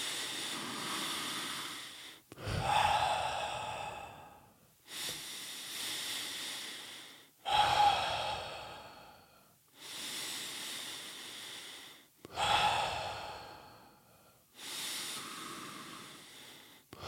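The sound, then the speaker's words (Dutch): Slow, deep breaths in a steady cycle during a guided breathing exercise, breathing into the belly and then the chest: long airy inhales alternating with forceful, hissing exhales, each lasting a couple of seconds, repeated about six or seven times with no talking. “Oké, gaan we dus eerst weer rustig met die buik, borst uit.”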